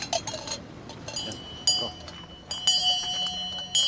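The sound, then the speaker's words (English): A water seller's hand bell rings out with bright, lingering metallic tones while brass cups dangling from hooks on his satchel clink and jingle against each other, over faint street chatter, as he roams a city in Morocco selling water. “advertises his one simple offering with a bell and the tinkling sound of his brass cups as they dangle off the hooks of his satchel.”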